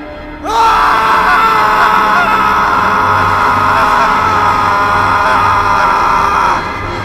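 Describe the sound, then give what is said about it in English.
A long, piercing scream erupts suddenly and holds at full strength for about six seconds, loud, with a faint low rumble underneath before it cuts off. “They suddenly hear a blood-curdling, horrifying scream.”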